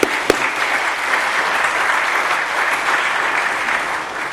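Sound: audience applause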